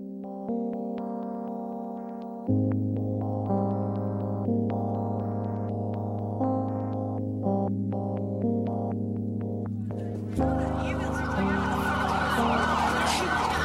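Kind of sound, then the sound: vehicle, emergency vehicle sirens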